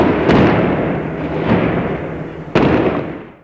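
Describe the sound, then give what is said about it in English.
Three sharp gunshot cracks ring out at irregular intervals, the last one loudest, as British Army paratroopers fire during clashes with a protest march, over a constant roar of crowd noise and commotion. “Clashes broke out, prompting arrests and then gunfire.”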